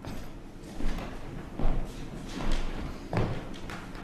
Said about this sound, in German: So, hier kommt, glaube ich, jemand zur Tür hinein.